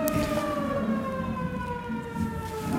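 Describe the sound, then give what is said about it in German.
A siren wails outside with a steady, slowly falling tone, its sustained pitch holding over a constant low rumble of background noise, with no speech. “Ich hoffe, dass es kein Katastrophenalarm ist.”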